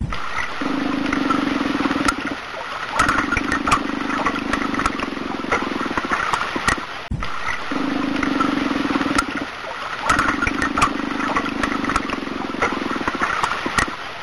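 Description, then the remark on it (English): Deep, droning underwater calls of an unknown aquatic animal, captured electronically by monster hunters in a region called Scotch Bonnet, rise in sustained low tones over steady crackling and hiss, broken by sharp clicks; the same sequence of calls plays through twice. “monster hunters electronically captured loud, deep sounds in a region called Scotch Bonnet”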